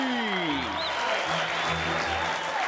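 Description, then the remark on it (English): A studio audience claps and cheers in a dense, steady roar of applause that stays loud throughout, with a faint descending tone and low musical notes underneath. “Most applause decides which one we do.”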